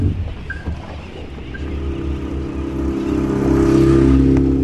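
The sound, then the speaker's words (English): An outboard motor on a small, tippy boat runs with a steady, buzzing drone that swells louder and revs higher over the last couple of seconds. No one speaks. “Four scientists, a couple of radio people, a video guy, two small tippy boats with outboards, and a bucket of gloppy something.”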